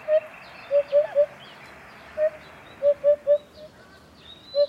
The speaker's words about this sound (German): Und das Schöne ist, dass dieser Ruf, der hier, ihm eben auch den Namen gegeben hat. Zumindest den lateinischen. Upupa Epops heißt er da.